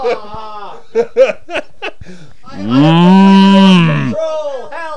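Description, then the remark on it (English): A person lets out one loud, drawn-out moo, imitating a cow for about a second and a half, after a few short bursts of chuckling and quick vocal sounds. “Moo! Don't moo. You and your moo.”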